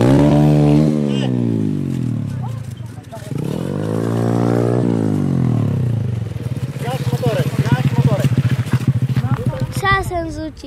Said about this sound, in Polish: To bardzo panowałeś nad maszyną. Rama, mini motorek żużlowy.